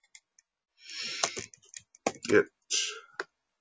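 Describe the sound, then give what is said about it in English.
Keyboard typing clicks, a short irregular burst of sharp taps with brief pauses between them, fairly quiet overall with some faint breathy noise mixed in. “Let's see if I, always the same problem, you know, typing too soon.”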